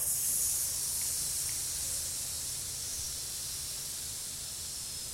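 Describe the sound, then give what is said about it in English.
A steady, breathy hiss made by a voice as a singing breathing exercise is held for the full five seconds. It is a bright, airy sound that fades slightly toward the end, with a faint low hum underneath. “So, now you have to do the hiss again.”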